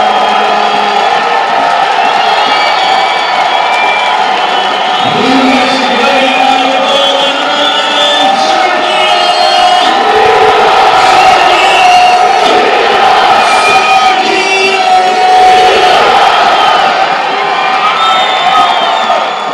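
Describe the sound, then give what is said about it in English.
A large home stadium crowd roars and cheers continuously after Sergio Rivas scores United's opening goal of 2021, a loud sustained wall of voices with shouts and whoops rising throughout. “How about that crowd for you”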